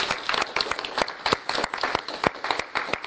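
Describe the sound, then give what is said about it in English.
An audience claps steadily for the facilitators, a dense patter of many hands with sharp individual claps standing out, sustained throughout. “Maybe give them an applause for their hard work.”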